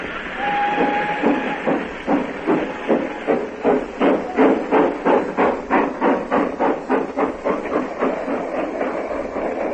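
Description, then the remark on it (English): A passenger train rolls along the rails with a loud, steady clickety-clack that gradually quickens and grows more distinct, opening with a short high whistle. “I thought the train had left you behind.”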